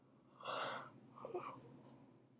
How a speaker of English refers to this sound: Sorry. Sorry for the yawning.